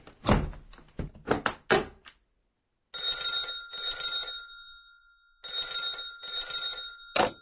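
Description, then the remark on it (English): A door thuds shut with a quick series of heavy clunks as Uncle Billy locks it at six o'clock, followed after a pause by a telephone bell ringing loudly in two long bursts. “Lock that door, Uncle Billy!”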